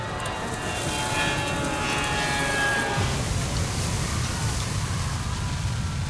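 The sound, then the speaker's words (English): A steady, loud airplane engine roar fills the whole recording, a dense continuous drone like cabin noise in flight, with a faint high whine fading out partway through. “It looked like he was on a plane.”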